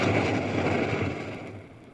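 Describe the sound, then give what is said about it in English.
The Imperial Leduc 230 oil well in the Leduc field blowing in: a loud, steady roar of rushing gas and oil with a deep rumbling low end, holding strong throughout and easing only slightly toward the end. “We heard that noise last Friday as Imperial Leduc 230 blew in.”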